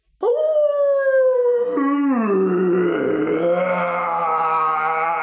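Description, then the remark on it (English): A wolf lets out one long, loud howl. It starts as a high, clear tone, breaks downward partway through, then carries on as a lower, rougher, wavering cry until the end. “When the wolf realized what had happened, sunrise was approaching and it was too late. He howled with rage.”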